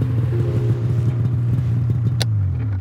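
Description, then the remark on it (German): A light aircraft lands on a long asphalt runway, its steady engine drone humming throughout, then a brief sharp scrape as the wheels touch down and the engine note sinks lower. “Dann setzt er zum Landeanflug an, auf der langen Asphaltbahn.”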